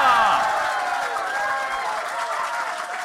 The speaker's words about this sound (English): Good evening, Laugh Out Londoners. It's Tuesday night, which means it's time to laugh. So please clap whoop and cheer. And welcome to tonight's compere, Mr. Nish Kumar!